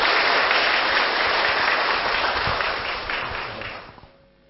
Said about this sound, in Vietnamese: Hãy dâng cao tràng pháo tay để đón nhận sư Minh Niệm.